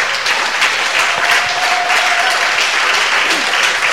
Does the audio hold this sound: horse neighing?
no